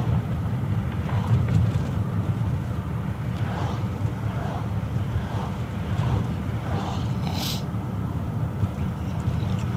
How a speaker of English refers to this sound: There's a big truck.